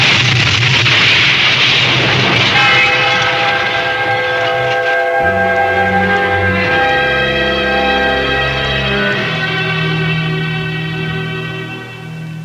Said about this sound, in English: The train.